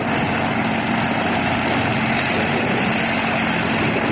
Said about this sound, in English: I couldn't get full power on the engine, but she started to lift, very slowly but increasing.